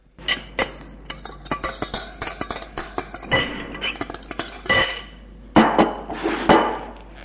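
Dishes and cutlery clink and clatter in a steady run of sharp, bright knocks and scrapes as a woman prepares a meal, a salad, at the table in the kitchen, with no talking.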